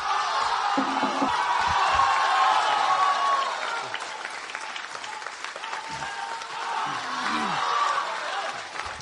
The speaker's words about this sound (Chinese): 那首先呢，请您欣赏由德云社全体演员为您带来的开场小唱《八四弦》，掌声有请。